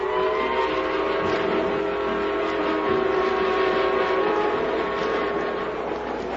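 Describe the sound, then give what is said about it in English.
A passenger train heading in the general direction of the Adirondacks in summertime rolls along steadily, a continuous loud rumble and rattle with sustained whining tones layered over it, unbroken for the whole stretch and with no voices. “I was in the club car, looking admiringly at a planter's punch when company came.”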